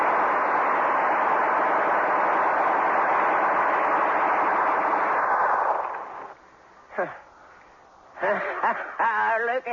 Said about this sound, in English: I never seen nothing like it. Gatlin gun can wipe out an army.